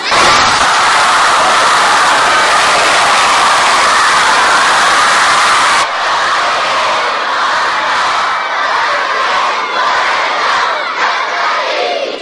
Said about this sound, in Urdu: ایسی بسیجی صلوات پڑھو جس کی آواز دشمن کے گھر تک جا کر پہنچے اور اسے پتہ چل جائے کہ بسیجی عاشورہ کے پیروکار، حسین کے پیروکار کہیں بیٹھ کر اپنی عقیدت کا اظہار کر رہے ہیں، سب کے سب مل کر باہم ایک صلوات بسیجی.